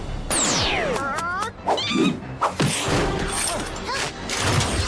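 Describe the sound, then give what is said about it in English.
Several dogs bark and yelp in a loud, chaotic jumble in a WordGirl cartoon scene, mixed with crashing, clattering noises and high whistling sweeps that keep the scene busy throughout. “Wow, word girl and a bunch of cute dogs?”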